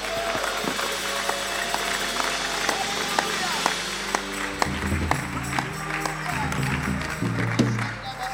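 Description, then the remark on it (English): A crowd claps hands to heaven steadily and shouts praise to God together in a loud, continuous wash of sound, with raised voices mixed into the dense applause throughout. “Clap your hands to heaven and give God a shout with a voice of triumph.”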